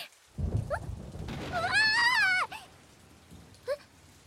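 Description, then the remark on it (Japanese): A deep rolling rumble of thunder swells over steady rain, while a high, wavering whimper rises and falls through the middle before the rumble fades. “雷、やば、怖。”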